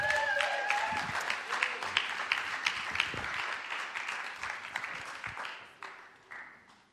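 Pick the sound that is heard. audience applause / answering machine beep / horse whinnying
audience applause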